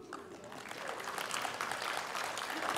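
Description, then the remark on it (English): A crowd breaks into sustained applause for the speaker's wife, many hands clapping densely and building slightly in volume over a few seconds, with no voices standing out above it. “Applaud her, not me, applaud her.”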